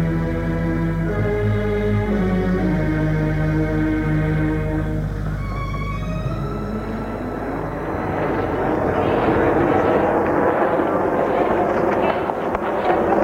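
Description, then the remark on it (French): A loud airplane engine on a flight to New York hums with a steady, droning whine that shifts in pitch, then swells into a broad, rushing roar as the aircraft seems to power up and fly by. “Deux mois plus tard, ils ont pris l'avion pour New York.”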